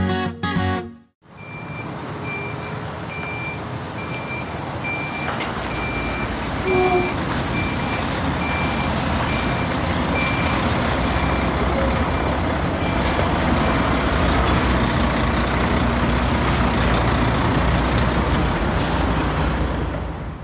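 A large truck idles with a steady rumbling engine while a reversing alarm beeps repeatedly in an even rhythm, clear, with no one talking.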